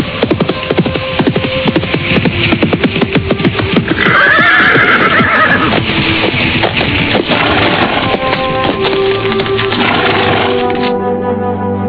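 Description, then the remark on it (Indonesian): Two riders' horses approach on a road through a forest with a steady, busy clip-clop of hooves, and a loud, high whinny rises over the trotting midway through before the hoofbeats settle; no one speaks. “Tak lama kemudian, 2 orang penunggang kuda datang.”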